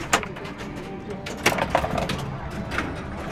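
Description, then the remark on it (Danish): A pinball ball is launched into play, with sharp mechanical clacks and bright electronic chimes ringing out over a busy, steady machine clatter, moderately loud. “Så er bolden i spil.”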